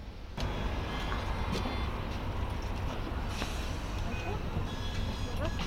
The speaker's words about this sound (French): Donc on prend le bus? On prend le bus ensemble? Volontiers, on monte sur le plateau.